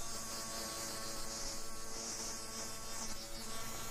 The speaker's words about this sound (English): Electric razors buzzing and humming.